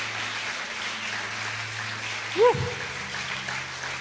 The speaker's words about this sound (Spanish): Dale un buen aplauso, porque es que es rico, gloria a Dios.